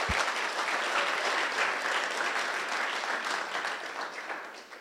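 A crowd claps steadily, a dense, sustained wash of many hands applauding at an even level, then gradually thinning and softening toward the end. No one speaks over it.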